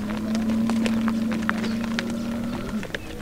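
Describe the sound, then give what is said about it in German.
Long rows of cows, goats and camels pass close by at noon in Wadi Darbat, a broad valley, heading to the waterholes, hooves clicking and clattering in an irregular stream over a steady low drone, with no one talking. “Und mittags pünktlich um 12 ziehen lange Reihen Kühe, Ziegen, Kamele dicht an uns vorbei zu den Wasserstellen.”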